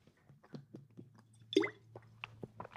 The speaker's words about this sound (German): Cheers, da trinke ich einen drauf.